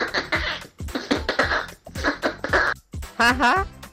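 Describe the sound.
A person imitates a partridge chick, making a run of quick, breathy chirping bursts that ends in a short, high, wavering peep.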